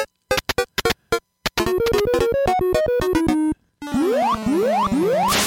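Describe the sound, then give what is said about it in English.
Chiptune-style sound effects from the arcade game DK3: a burst of rapid bleeps, then stepped beeping notes, then a series of rising electronic swoops with a fizzy hiss, loud and with no talking. “Some DK3 sound. I didn't play that yet, so enjoy it.”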